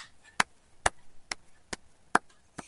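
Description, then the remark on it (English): A single person's slow clap: six sharp, crisp claps evenly spaced about half a second apart, with nothing else around them. “That was a slow clap.”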